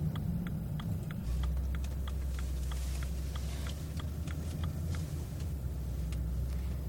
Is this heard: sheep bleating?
no